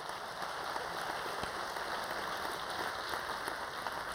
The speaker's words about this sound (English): And now you can clap and put your hands together, because isn't that great?